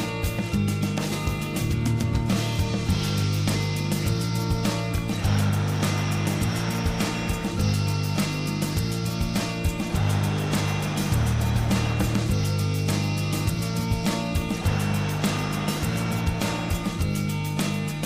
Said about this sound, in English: Now once you've got the pattern, you can allow the breathing to be continuous like this, if you prefer.